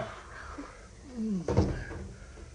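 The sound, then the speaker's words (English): A door swings shut with a single dull thud, preceded by a brief creak, then a faint low rumble lingers afterward with no clear speech. “Now, let's have the door shut.”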